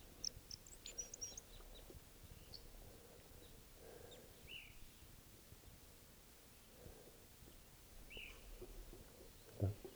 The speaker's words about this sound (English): Here's the calls of a one of the birds. Flight song of a male.